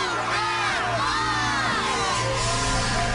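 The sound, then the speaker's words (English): A large crowd screams and cheers excitedly at the 'Move That Bus' moment of a TV show, as the bus is moved, a dense, sustained wall of overlapping shrieks and whoops that stays loud and continuous for the whole moment. “Listen to the screaming. It's great.”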